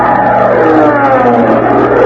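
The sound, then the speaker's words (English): A buzzing bee sound effect in a comedy sketch as Costello enters a room full of bees to chase them out: a loud, steady, dense droning with a rough, mid-pitched hum that holds unbroken for about two seconds, with no voices over it. “That was bee 29.”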